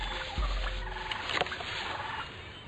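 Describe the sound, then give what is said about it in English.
A turkey gobbles in a quick, rattling burst partway through during a turkey hunt, set against steady outdoor background noise with a soft thump near the start; no one speaks. “Jerry, we came out here so I could shoot a turkey.”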